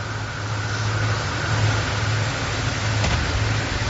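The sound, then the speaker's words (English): Motorcade vehicles carrying President Biden rumble outdoors as they pull up to the White House on a windy day, a steady low engine drone with broad, wind-like road noise and a brief sharp click near the end; no one speaks. “This is just when they rolled up to the White House here.”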